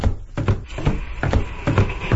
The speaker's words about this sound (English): Then they hear Timmy's footsteps approaching from a wooden back porch.